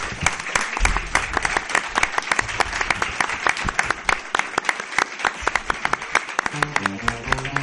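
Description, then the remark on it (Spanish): An audience applauds the event's organizers steadily for several seconds, a dense, even wash of many hands clapping, and a few musical tones come in under it just before the end. “Muchísimas gracias y pido un aplauso para toda la organización.”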